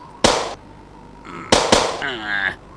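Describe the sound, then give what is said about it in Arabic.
Three loud, sharp gunshot blasts of real bullets ring out in a desert, one then a quick pair about a second later, the last trailing into a wavering high-pitched whine like a ricochet. “ولكن هذه الرصاصات ليست مطلية بل حقيقية.”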